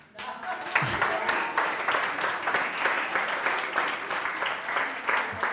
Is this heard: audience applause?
yes